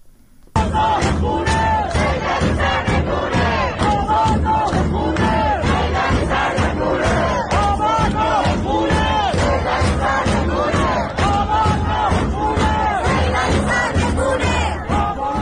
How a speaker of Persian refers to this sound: الان صدای یکی از این اعتراضها رو در منطقه صادقیه تهران میشنویم.